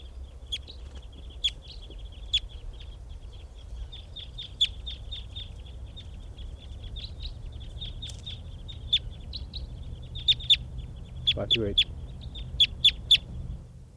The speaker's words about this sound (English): And the flock is taking off, leaving some birds in the net.